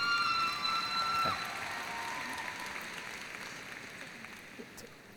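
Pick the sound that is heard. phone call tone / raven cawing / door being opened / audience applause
audience applause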